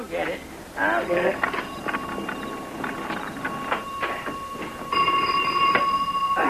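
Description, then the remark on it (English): A telephone rings with a steady, shrill electric tone that keeps going beneath people talking, growing noticeably louder and clearer toward the end. “George, the telephone's ringing.”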